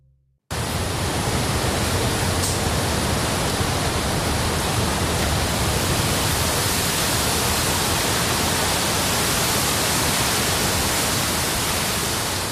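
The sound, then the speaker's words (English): The wind and rain of a powerful storm at the end of a big cyclone roar as a dense, steady wash of noise, loud and unbroken across all pitches. It starts abruptly after a brief silence, with no voices. “This is a storm. It's the end of a big cyclone.”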